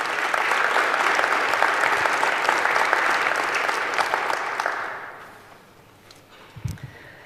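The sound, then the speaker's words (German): A crowd applauds steadily for about five seconds to welcome the invited speakers, with dense, even clapping, then the applause fades away into quiet room tone, with a brief low thump near the end. “Vielleicht an dieser Stelle erstmal einen kleinen Applaus, dass sie zu uns gekommen sind.”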